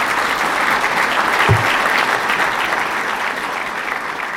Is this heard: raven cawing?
no